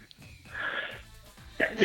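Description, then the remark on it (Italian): A breathy inhale builds for a moment, then a single sudden sneeze bursts out at the end, loud and sharp, with no talking around it. “Scusate, starnuto.”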